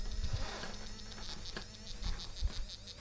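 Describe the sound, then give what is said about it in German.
An obstacle-sensing device vibrates strongly as it is moved slightly back away from an obstacle, giving off a steady, insect-like electric buzz with bright, pulsing high overtones, broken by a few soft low thumps. No one speaks. “Entferne ich mich wieder etwas davon, vibriert es heftig.”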